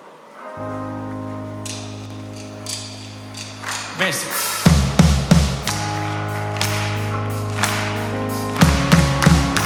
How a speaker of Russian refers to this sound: Мне нравится эта песня тем, что здесь можно хлопать. И давайте попробуем делать это вместе, хорошо? Знаете, если будет здесь громко хлопать, будет очень классно в этой атмосфере.